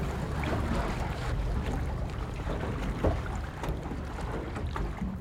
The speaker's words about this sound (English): He graciously took us out on Utah Lake in his research boat as we were first dipping our toes into this whole matter.